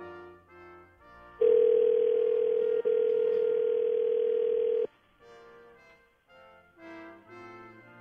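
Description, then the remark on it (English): A loud, steady telephone tone hums for about three and a half seconds with one tiny break as a call is placed to a home number, set between quieter, shifting tonal sounds before and after. “Now, let me get her on the phone.”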